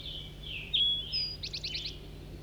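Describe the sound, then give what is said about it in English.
Thin, high calls from a big flock of wild red crossbills in flight to the south in a forest, around 7 o'clock: drawn-out notes, then a rapid run of four or five sharp chips. A low, steady hum runs beneath, and nobody speaks. “And I hear a big flock of crossbills down to the south.”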